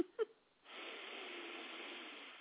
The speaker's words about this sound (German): falls ihr Tönchen im Hintergrund hört, das ist …, die im Stuhl neben mir schnarcht